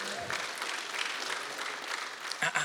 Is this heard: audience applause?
yes